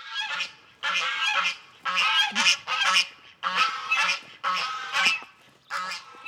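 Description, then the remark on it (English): Wild geese honk loudly, harsh overlapping calls coming in repeated bursts separated by short pauses, with no talking; wild geese are among the injured wild animals rehabilitated by volunteers in Arkansas. “And tomorrow on Ozarks, in Arkansas, dedicated volunteers rehabilitate tens of thousands of injured wild animals every year, including wild geese.”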